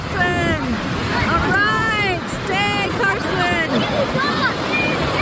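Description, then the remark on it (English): Children's high-pitched voices shout and call out in overlapping, sing-song bursts, with no clear words, over a constant rushing wash of water and wind noise. “Did you hear those kids?”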